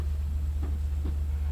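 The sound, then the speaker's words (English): Steady, heavy low rumble of the 605 train to New York rolling along the tracks as it arrives in Smithtown, with two soft clacks from the rails about half a second apart, heard from inside the carriage. “Actually, I'm on this train.”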